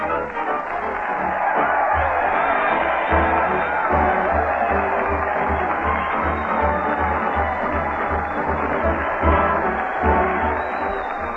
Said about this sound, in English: Crowd cheer Fred Allen as he leads the parade down Main Street to the old town hall. Fred's leading the band with a drumstick, and he's followed by those veterans of many a turkey, the mighty Allen Art Players.